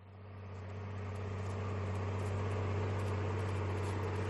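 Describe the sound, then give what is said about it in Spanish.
The engine of a tall red tractor, driving slowly among hundreds of other tractors through central Madrid, Spain, drones steadily with a deep, constant low hum and broad rumbling noise, swelling up over the first second and then holding loud and even, with no voices. “Volvemos a subirnos al tractor de Carles.”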